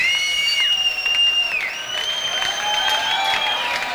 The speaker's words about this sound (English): And the crowd's into it. They're going nuts. Crowd's having a great time tonight.